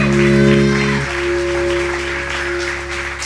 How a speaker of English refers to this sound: Give the Lord a big round of applause one more time.